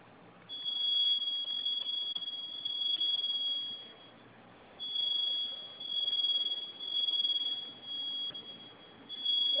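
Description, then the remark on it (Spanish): A piercing high-pitched fire alarm tone from a security panel, set off as a test by holding down the panel's two flame buttons at the same time, blares loudly in repeated long pulses with brief dips between them, with no one talking. “Vamos a oprimir los dos, oprima los dos botones de la flamita al mismo tiempo. Déjelos oprimidos, se va a activar la alarma.”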